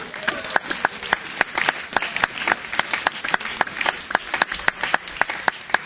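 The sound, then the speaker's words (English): Audience applause given to the Lord: a steady flurry of sharp, crisp claps overlapping in an uneven rhythm, moderately loud, continuing for several seconds with no talking over it. “Give the Lord a clap of.”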